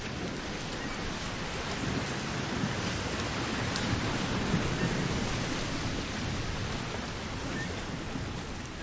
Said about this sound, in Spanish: Qué bonito es estar sentado en la playa, viendo el vaivén de las olas. Ese sonido me trae tantos recuerdos.